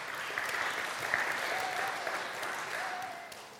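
A room full of people claps steadily for a few seconds, the dense applause holding at an even level before tapering slightly at the end, with faint murmurs beneath.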